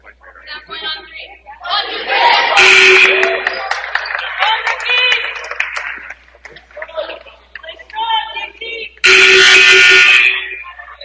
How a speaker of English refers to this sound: Rookies getting a reminder from the crowd to dig deep, play strong, finish hard here.